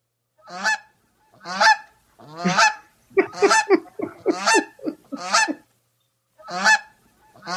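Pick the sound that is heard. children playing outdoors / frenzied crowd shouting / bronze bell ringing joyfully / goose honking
goose honking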